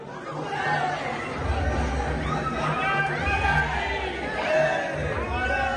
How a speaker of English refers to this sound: That's pretty cool, right? They're cheering this guy. I mean, people are like, oh, my God, Modi. I mean, he's arriving there.